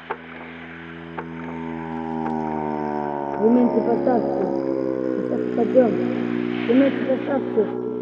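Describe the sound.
A propeller airplane drones steadily and loudly in flight through turbulence, its engine hum holding a constant pitch with faint murmuring voices partly buried beneath it.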